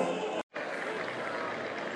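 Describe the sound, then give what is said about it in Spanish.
People at a party in front of a house applaud in a steady, dense wash of clapping that fills the whole stretch, cutting out briefly for a moment near the start before resuming at the same level. “Ahí la gente aplaudiendo.”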